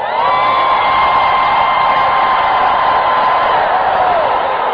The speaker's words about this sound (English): Lift your hands and scream for 5 seconds.